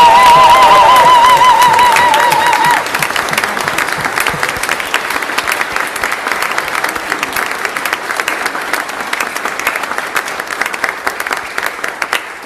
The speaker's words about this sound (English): But you know, we did not have a chance to, I think, cheer for those who are received and those who are confirmed. Congratulations.